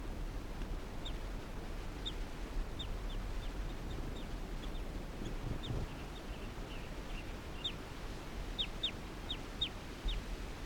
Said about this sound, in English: Recording, this is bird 338 calling softly in response to the wild bird.